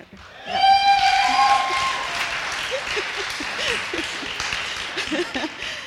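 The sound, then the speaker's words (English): An audience at a Creative Writing Program event applauds steadily for several seconds, a dense wash of clapping that starts abruptly with a brief high tonal whoop, then gradually softens as faint voices murmur beneath it. “An appreciative crowd, that's what we want.”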